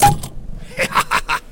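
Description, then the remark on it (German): A sharp pop as a bottle of Vielanker cherry lemonade is opened, followed by a few short, rhythmic bursts of hissing fizz as the pressure escapes. No one speaks. “Ich plopp mal die Vielanker Kirsch, oh, auf, ja? Das wird laut.”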